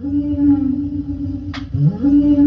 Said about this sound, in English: So that particular one is a whale. So they sell different types of sounds from animals and stuff like that as loops.